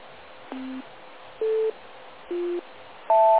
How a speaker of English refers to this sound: Right now it's in the NBC tone order. Quite often it is in the BC, and you know, it's reversed. The tones sometimes come out in a different order, and that's not quite as pleasing.